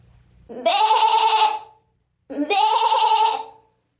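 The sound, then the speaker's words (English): A woman from Stamford, California, in the United States imitates a goat, letting out two loud, drawn-out, quavering bleats about a second long each, separated by a short pause. “I'm from Stamford, California in the United States, and I've been told I can do a pretty good goat noise.”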